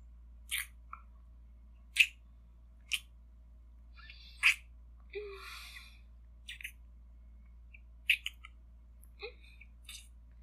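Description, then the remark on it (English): Wet sucking and smacking mouth sounds against skin: about ten sharp, crisp clicks and slurps arrive irregularly over a low steady hum, with no talking. “I'm suckling too hard on your skin.”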